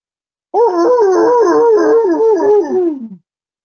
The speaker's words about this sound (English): I'm wondering when the dog sits there and barks at the siren, is that a pleasure bark? Is he giving me a warning? What is it? Is it, ooh, that hurts? He doesn't act like it hurts. He's just acknowledging something.